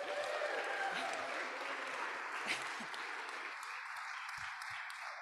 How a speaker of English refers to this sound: And then just real quick, please, let's give the family ministry team a round of applause for putting on Youth Blast.